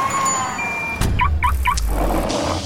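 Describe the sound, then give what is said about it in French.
A short radio show jingle, introducing a segment about the driving licence, built from vehicle sound effects: a steady engine-like rumble, a sudden burst, then three quick matching electronic beeps in a row, with no voices. “C'est parti, re-jingle.”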